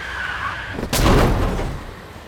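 A car accident on a street: tires squeal in a high, steady skid for under a second, then a loud crash of impact breaks in, followed by a rumbling, crunching aftermath that slowly fades.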